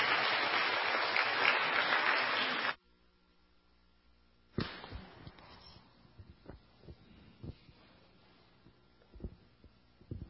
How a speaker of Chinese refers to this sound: 我们就鼓掌欢迎这位爱主的姐妹